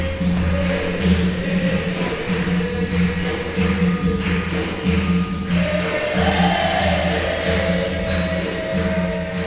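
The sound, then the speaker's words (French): Loud, continuous tribal music from a capoeira class in a community centre on Avenue Père Marquette in Québec: a steady driving percussion beat over a low droning twang and chant-like tones, without pause. “À l'intérieur, on entend une musique tribale et une odeur, ma foi, forte d'homme se fait sentir.”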